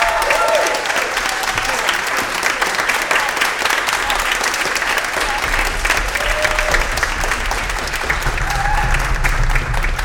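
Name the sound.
audience round of applause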